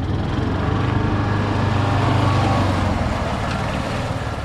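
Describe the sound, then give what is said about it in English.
A steady, loud rumble of truck engines as a convoy of mosquito spray trucks, with a three-wheeled all-terrain vehicle, drives into a park, a continuous low drone with a faint airy hiss above it and no voices. “Gibson's convoy heads into the park. In addition to the spray trucks, the entourage also includes a three-wheeled, all-terrain vehicle.”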